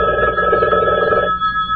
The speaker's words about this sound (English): Mary, Mary, the telephone.